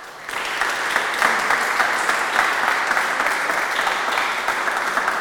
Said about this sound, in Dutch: En ik denk, we gaan met z'n allen even klappen voor Wim.